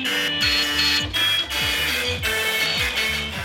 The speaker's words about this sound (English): Next up is Culture, where Robert Bound will be finding out how to make an orchestra out of a load of old printers. I could go dee-dee-dee-dee, and the printer here would go bop-bop-bop-bop. I mean, it was killer.